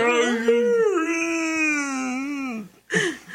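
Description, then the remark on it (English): A person loudly imitates a wolf howl, one long sustained wavering cry that drops off near the end, followed by a brief second vocal burst. “The howl of the majestic dragon wolf.”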